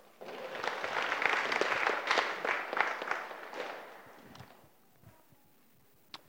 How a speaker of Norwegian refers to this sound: Gi han en applaus.